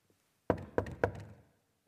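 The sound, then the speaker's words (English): Three firm knocks on a wooden door in a quick, even rhythm, each a solid thud that rings out briefly before the next, with no voices. “How does Jesus knock?”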